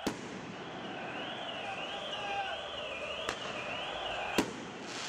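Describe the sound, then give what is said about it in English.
Sharp firework bangs crack out a few times over a dense, noisy din of people partying in the streets of Algeria at night, while a wailing siren rises and falls steadily underneath. “So those are fireworks going off in the background there. You've got people taking to the streets, partying. Still sirens in there.”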